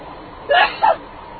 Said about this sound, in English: Gesundheit. Sorry about that. I have mild allergies and hay fever, so There you go.